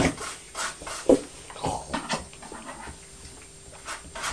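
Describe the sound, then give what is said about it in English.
A child in a hot tub imitates a pig with a string of irregular, breathy snorts and snuffly grunts, short bursts of varying loudness with brief pauses between them and no speech. “I'm a pig. Aren't you? Making pig noises.”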